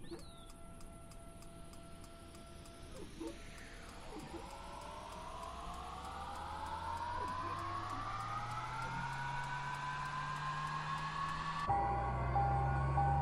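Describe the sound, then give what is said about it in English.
A simulated aircraft engine starting up in Microsoft Flight Simulator with the number one starter engaged: a rising mechanical whine spools steadily higher over several seconds, with a rapid, regular ticking underneath, fairly loud, and no voices. “This starts up, it starts up on the outside. Battery master active. Number one starter engaged.”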